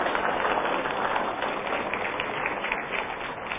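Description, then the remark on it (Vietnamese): Steady, dense applause from an audience at the McGavin hall in Southern California welcoming the teacher Thầy Nhật Từ back, many hands clapping at once in a continuous crackling wash that holds at a fairly even loudness throughout. “Xin quý vị một tràng pháo tay để chào đón thầy trở lại.”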